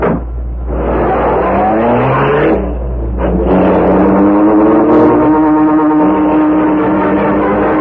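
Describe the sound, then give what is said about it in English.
A car engine roars loudly, revving and accelerating with its pitch climbing in surges as it pulls away, filling the whole stretch with no voices. “dragged the still unconscious man to the rear door of the building, and put him into the car.”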